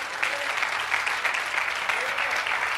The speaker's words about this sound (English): Hallelujah. Go ahead and clap your hands.